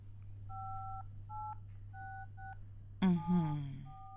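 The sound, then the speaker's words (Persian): Four short dual-tone telephone keypad beeps sound in an uneven sequence over a low steady hum as someone dials a phone to make a call, followed by a brief voice and one more tone near the end. “باشه، من تلفن میکنم. باید ببینم که پدر جانتان وقت داره یا نه. باش که من انبرشو بگیرم.”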